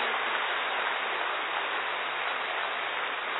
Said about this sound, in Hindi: जोरदार हॉल गूंज उठे, ऐसी ताली बजाइए।